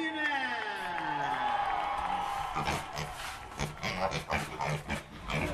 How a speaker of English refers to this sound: We're going to leave you today with some sounds of the Colorado State Fair, which wrapped up today in Pueblo.